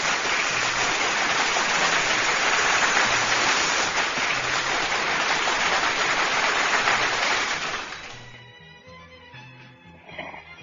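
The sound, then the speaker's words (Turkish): A big burst of applause for writer Menekşe Gülay, dense and steady clapping filling about eight seconds before tapering off quickly into quieter tones. “Kocaman bir alkış Menekşe Gülay ablama, gönlümün dostları.”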